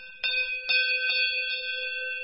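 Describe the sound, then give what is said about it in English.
A deep-toned cowbell, individually cast in a sand mould, clangs about four times in an uneven rhythm, each strike ringing into a long, sustained metallic tone that overlaps the next. Fairly loud, with no voices. “Each bell is individually cast from moulds made of sand, with intricate decorations of escapes, flowers, and of course cows.”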